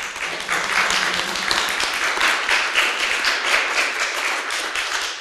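Steady audience applause for a visiting professor from Lublin, a dense wash of many hands clapping at a fairly loud, even level for about five seconds, with no voices standing out.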